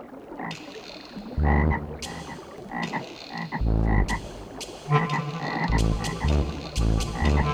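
A toad croaks loudly and repeatedly in an irregular series of deep, buzzy calls with short gaps between them. No one speaks.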